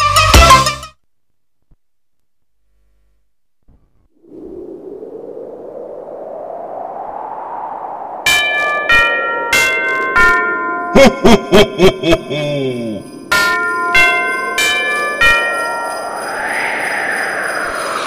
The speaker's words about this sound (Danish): Sikke mange klokken slår, 13 slag, tiden går.